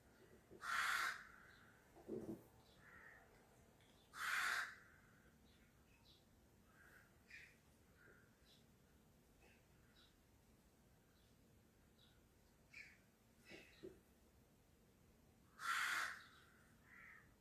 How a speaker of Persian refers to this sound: چه قارقا رو بلندی میکنن این کلاغا.